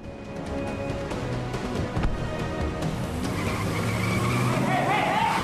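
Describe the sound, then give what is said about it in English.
A sporty black Lexus's engine revs hard and the car tears off, tires squealing and skidding loudly on pavement, the roar and screech building as it speeds away. “The owner of the car swipes impotently at the vehicle as Jack speeds away in it.”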